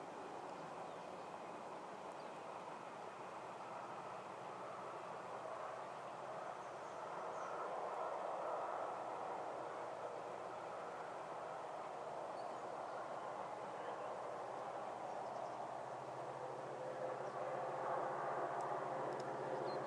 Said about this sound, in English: I just come outside to get a better recording of this train, but it's not a very nice sounding train.